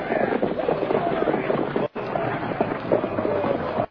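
Horses' hooves pound in a dense, busy, loud clatter as a stagecoach is pulled up, with a rough rumble of movement underneath and voice-like traces mixed in, briefly cutting out twice.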